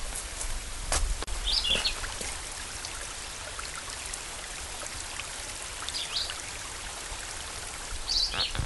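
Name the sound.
creek water flowing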